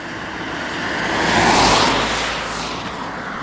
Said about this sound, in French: Ah, une première voiture.